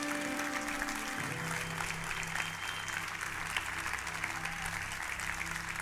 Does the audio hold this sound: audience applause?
yes